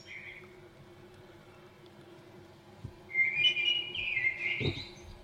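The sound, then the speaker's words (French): A blackbird sings clear, fluting whistled phrases outdoors, a faint note at the start, then a louder run of warbling song in the second half over a low background hum. “C'est encore le merle, écoutez comme il chante bien.”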